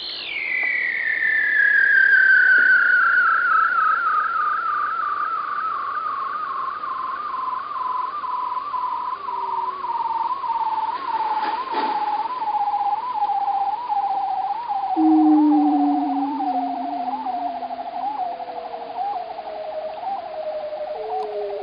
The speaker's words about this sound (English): this sound in particular is made by male bearded seals, and they use it to set up their territories underwater